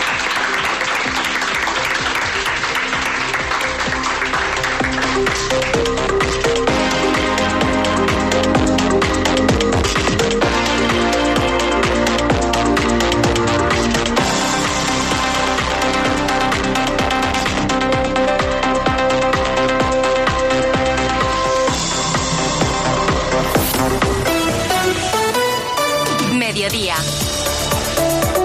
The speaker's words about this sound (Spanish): Muchas gracias a todos los estudiantes por recibirnos en el instituto. Gracias, un aplauso a todos vosotros.